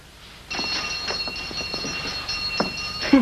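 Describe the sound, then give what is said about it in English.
A front doorbell rings in one long, unbroken burst of about two and a half seconds, a bright, rattling metallic ring that starts suddenly and cuts off with no one speaking. “Honey, there's somebody at the front door.”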